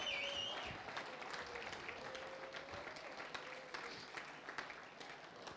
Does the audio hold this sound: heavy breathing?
no